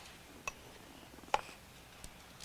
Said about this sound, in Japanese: はい、包丁で人参を。 はい、 どう？まな板の上でやってください。